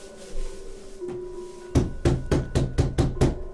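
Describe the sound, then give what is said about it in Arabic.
A quick series of about seven firm knocks on a wooden door, evenly paced, after a single faint tap; no voices. Benjamin knocks on the door of his father, the prophet Jacob, to announce a guest. “أبي، أبي افتح الباب يا أبي، جاءك ضيف.”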